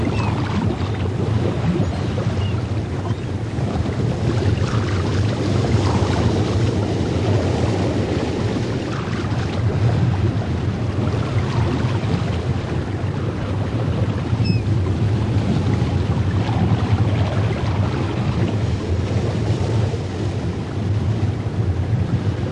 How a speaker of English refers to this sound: Look now from the beach. Look out to the sea. Watch the water. Watch the waves as they crash upon the shore. Listen to the sounds of the sea.